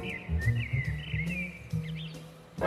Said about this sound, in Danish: Solsortene derimod, ja, de er optaget ud af mit vindue på anden sal på Nørrebro i København på en varm sommeraften lige ved skumringstid.